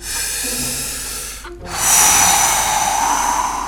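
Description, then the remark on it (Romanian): A voice imitates the wolf blowing hard at the piglets' stone house in a telling of the Three Little Pigs: two long, breathy, hissing blasts of air separated by a brief pause, the second stronger and louder than the first. “Lupul suflă odată.”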